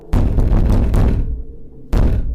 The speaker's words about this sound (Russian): Стук звучал с новой силой. Еще громче, чем раньше. Дверь тряслась, а затем перестала. После продолжительной паузы стук раздался вновь, уже от заднего входа.